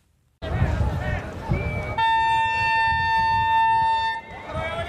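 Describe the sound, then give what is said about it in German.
A loud, sustained train horn blasts for about two seconds over the murmur of a crowd, with voices audible before and after the steady harmonic tone, as an overcrowded train leaves the small station of Gevgelija, Macedonia, bound for Serbia, in mid-August 2015. “Ein überfüllter Zug verlässt den kleinen Bahnhof von Gevgelia in Richtung Serbien.”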